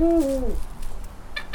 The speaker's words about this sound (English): What kind of owl? This is called a Eurasian eagle owl, and that's the largest species of owl in the world. It really sounds as though she's saying, who? Like, who are you?